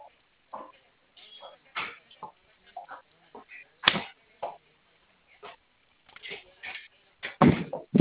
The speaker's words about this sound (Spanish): Espéreme, es que tengo una puerta abierta. Espéreme, déjeme a cerrarla.